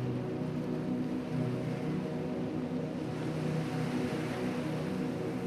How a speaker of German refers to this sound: Hörst du die raue See?